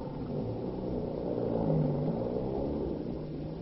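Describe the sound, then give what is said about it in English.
The engine of a stolen car rumbles steadily as escaped convicts drive off in it, its low drone swelling slightly midway before holding on. No one speaks. “radio calls went out to Pennsylvania state officers to be on the lookout for the collegiate car stolen by the convicts in their headlong flight”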